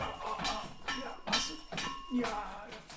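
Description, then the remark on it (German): Tino the dog's tail thumps against a desk about four times in an uneven rhythm, each hit a fairly loud, dull knock with a faint clattering ring. “Also er hat übrigens keine Glocke am Schwanz, sondern er hat mit dem Schwanz immer vor den Tisch gehauen, hier vom Schreibtisch.”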